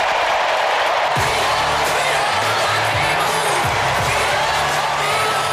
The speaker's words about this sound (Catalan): El somriure era radiant i l'ovació ha estat enorme. Era era el moment de la seva vida.